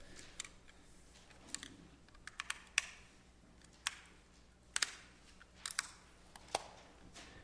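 Batteries being swapped in a small device in front of a crowd: a scattered series of sharp plastic clicks and snaps with light handling rustle between them, irregular in timing and fairly quiet, with no talking.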